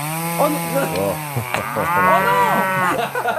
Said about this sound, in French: Mais voilà, la vache est arrivée, très bien.